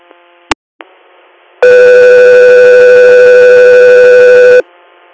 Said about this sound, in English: Guthrie Air, stand by for tones.